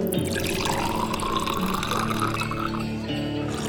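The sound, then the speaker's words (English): Water is poured steadily into jars, a continuous splashing gurgle whose tone shifts slightly as each jar fills, with no voices over it. “Fill the jars with water. Whatever he tells you. Water is drawn and fills the jars.”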